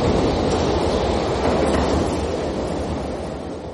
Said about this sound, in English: Oi! Stop that train!